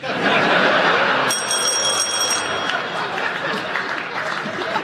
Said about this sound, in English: There was a hesitation there. There was, yes, he made his point. So, he paused because the audience applauded.